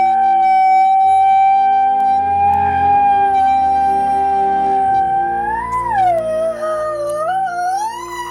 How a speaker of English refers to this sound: Every year, thousands of Americans hear a siren and immediately assume severe weather is approaching. But experts say that's not always the case.